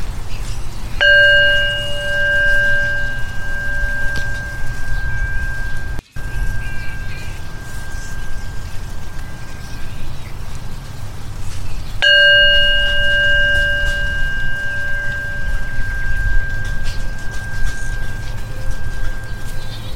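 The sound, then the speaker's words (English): A mindfulness bell is struck twice, about ten seconds apart; each clear metallic tone rings out loudly and then slowly fades away, over a steady low background hum and no talking. “We listen to the full sound of the bell.”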